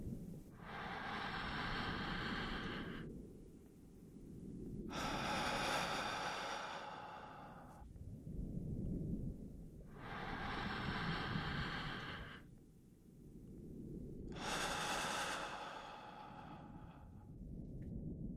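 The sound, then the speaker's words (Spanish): Slow, deep breathing in a relaxation exercise: airy inhales through the nose alternating with long, breathy exhales through the mouth, about four cycles over a soft, steady rumble. “Inhalando por tu nariz. Exhalando por la boca. Repitiendo dos veces más.”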